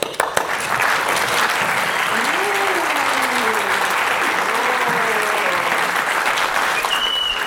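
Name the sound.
audience clapping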